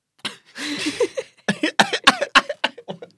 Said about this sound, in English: I'm sneezing, I'm coughing.